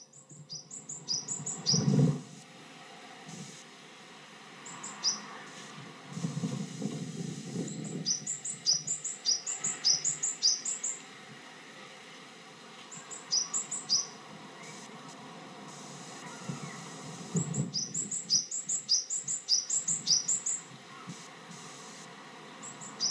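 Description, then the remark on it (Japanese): Repeated bursts of high, rapid bird chirps come in clusters, a call phrase repeating every few seconds, over a soft background with some low rustling thumps. “なんかよく聞くような鳥の声ですよね。”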